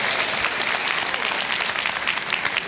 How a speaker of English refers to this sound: And I really applaud the French students, how they pressed their way out in this snowstorm, and they pressed their way out. Give them a hand clap. They did it by faith.